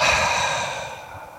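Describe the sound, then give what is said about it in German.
A long, audible exhalation during a breathing exercise, released after a deep breath into the belly is held: a steady breathy whoosh of air that slowly fades over a second and a half, with no talking. “Also wir atmen tief ein, beobachten den Atem, wir bis in den Bauch fließt, tief in den Bauch, dort halten wir den Atem und atmen weit und gut hörbar aus.”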